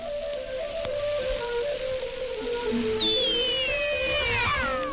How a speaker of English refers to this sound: And that sweeping whistle must be the jammers homing in, for at 22.08 came the sign-on fanfare and the first signs of jamming.